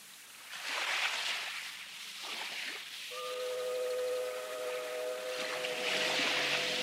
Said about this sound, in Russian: Теплоход идет. А ты откуда знаешь? Волны сзади идут, значит, не колесный.